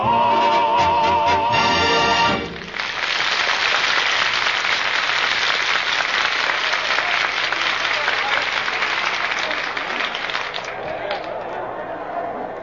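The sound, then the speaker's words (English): A large crowd bursts into loud, sustained applause and cheering, a dense roar of clapping that follows a brief musical passage and carries on steadily to the end, the crowd waiting for the event to start. “look at that crowd. Look at that bloodthirsty mob waiting for us to start.”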